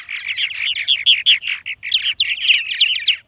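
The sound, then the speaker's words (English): Swallows twitter in a rapid, continuous stream of bright chirps and warbles, steady throughout, with only brief breaks between bursts and no voices. “Each spring, 8 species of swallows wing north from the tropics to nest in North America.”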